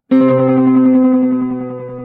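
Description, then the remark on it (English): A heavily processed guitar tone from a Black Fountain effects pedal running custom-written code, a sustained harmonic-rich chord with a wobbling, pulsing modulation that slowly fades over about two seconds, loud and with no talking. “So as we said, I made this pedal. I did. I wrote all the code. And guys, I didn't realize it could make that sound.”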